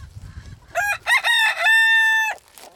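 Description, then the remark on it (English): A rooster lets out one loud crow, a few choppy rising notes ending in a long, steady held cry, after soft low clucking from free-range chickens at the start. “We have started to contain them a little more just because I like having the chickens run all over, but there's two things that happen.”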